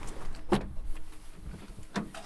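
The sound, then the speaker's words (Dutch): A car door opens with a short mechanical clunk, then about a second and a half later slams shut with a firm thud as a passenger gets into the car, against quiet background noise. “zo de deur. Lukt het?”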